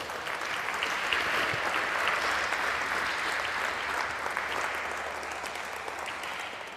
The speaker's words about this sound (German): Ist schon Applaus, ihr wisst noch gar nicht, was euch erwartet.